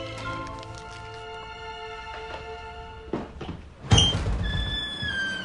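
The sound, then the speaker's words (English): A bookstore's front door opens midway with a brief thump, then a louder close clatter and a lingering ringing tone, over a steady tonal musical background. “only to hear an unexpected sound from the front of the shop, the door opening.”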